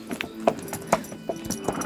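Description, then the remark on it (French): Horse hooves clip-clop in a steady, fairly quick rhythm as a rider remounts and departs on horseback, about six distinct sharp knocks over two seconds at moderate loudness, with no voices present. “Tenez mon cheval. Je remonte en selle.”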